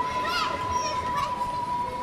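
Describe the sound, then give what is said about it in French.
Street noise of children playing: a steady, jumbled wash of young voices with laughter, high shouts and calls rising briefly above the murmur, over a constant background hum and a faint sustained tone. “Des enfants jouent.”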